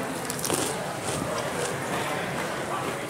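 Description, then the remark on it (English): Crisp, crackly crunching of regular Cheetos cheese puff snacks being chewed, a few brighter bites standing out over a steady, fairly quiet gritty texture. “I should crunch louder so that the mic will pick it up.”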